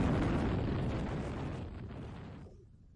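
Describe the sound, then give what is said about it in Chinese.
A plane crashes into a mountain: a deep, roaring explosion rumbles loudly with a broad, crackling burst that sustains for over two seconds before tapering off and cutting to near silence. “哆啦 A 梦等人在飞机撞山之前跳了下去。”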